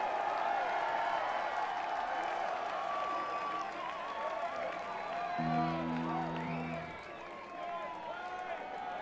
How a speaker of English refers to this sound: We get a round of applause